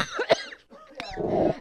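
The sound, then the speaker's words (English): A man, a station manager, coughs a few times in quick, sharp bursts while laughing, mixed with breathy laughter-like sounds and throat noise, with no clear speech. “He's laughing and coughing.”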